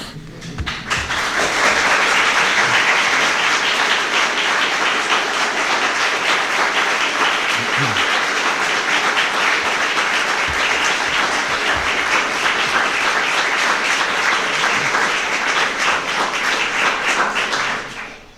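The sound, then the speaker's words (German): Loud, sustained audience applause, a dense crackle of many hands clapping that swells quickly, holds steady for about fifteen seconds, then tapers off at the end. The applause follows a talk on digital health. “Das war, glaube ich, schon mal ein ziemlich großer Applaus.”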